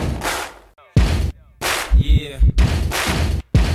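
A loud hip hop beat that samples a classic stadium-anthem stomp, stomp, clap pattern. Heavy booming thumps and sharp, noisy clap hits play in a syncopated rhythm, with brief dropouts between phrases.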